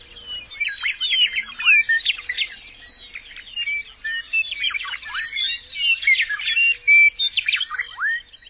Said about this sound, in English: And if we hear a bird song, then we're also listening to an area which has food, water, and an extended favorable season long enough to raise the young off the nest. Bird song is the number one indicator of habitats prosperous for humans.